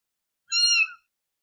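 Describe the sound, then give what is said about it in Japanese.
A single high, thin mew from a sick kitten, about half a second long, clear with a slight rising-then-falling pitch, heard alone against silence. “子猫が僕を見て泣いた。まるで母親を呼ぶように。”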